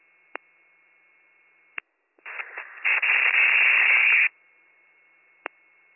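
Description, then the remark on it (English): Radio static bursts on a rescue dispatch radio channel for about two seconds, a harsh hissing crackle that swells louder then cuts off abruptly, bracketed by brief clicks of a radio keying on and off. “All static.”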